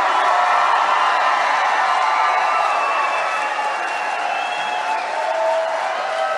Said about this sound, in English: And the crowd went wild. Absolutely wild.